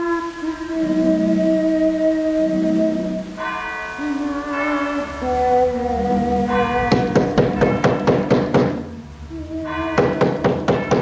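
Deep, ringing church tower bell tones striking midnight hum and overlap, each strike sustaining a long shimmering chord, before a rapid series of sharp, loud knocks hammers in, pauses, then resumes over the fading bell.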